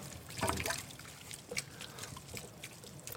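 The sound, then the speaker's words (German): About one liter of tomato broth, water with a lot of tomato paste, pours and splashes into a pot, a burst of sloshing near the start followed by softer trickles and drips, fairly quiet with no talking. “Und jetzt kommt eben das Tomatenbrühe, Tomatenwasser mit relativ, also Wasser mit relativ viel Tomatenmark.”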